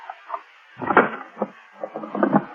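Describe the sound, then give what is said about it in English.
A locked wooden drawer is forced open: a series of rattling knocks and creaking scrapes, with a loud splintering burst early on and a cluster of jolting clatters at the end. “Now, why would you keep this drawer locked, Deansy, old boy? Let's just force it open.”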